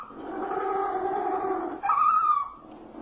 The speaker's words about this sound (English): The penguin's trying to start his car. Why does one penguin make a weird noise? The other one's laughing.